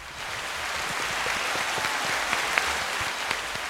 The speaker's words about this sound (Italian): Un altro applauso.